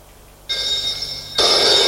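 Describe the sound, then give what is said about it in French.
A telephone bell starts ringing abruptly after a brief quiet moment, a bright, sustained metallic trill that grows louder partway through. It is clear, with no voices, until a receptionist picks it up. “Le téléphone sonne.”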